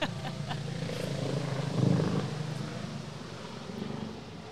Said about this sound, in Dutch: Alright, we gaan door. We hadden even een kleine helikopteronderbreking.